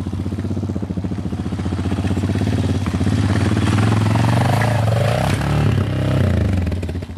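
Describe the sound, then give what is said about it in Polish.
A motorcycle engine, on a bike of about 130 to 140 kilograms that is fairly light for a motorcycle, runs loud with a throbbing low rumble, its pitch rising and dipping midway as the throttle is revved, with some rattling clatter mixed in. “Ten akurat jak na motocykle to nie jest jakiś bardzo ciężki, bo on tak około 130 paru, może 140 kilogramów waży, więc ten akurat się w miarę łatwo podnosi.”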